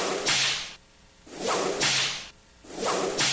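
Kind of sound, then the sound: sound effect, whip crack sound effect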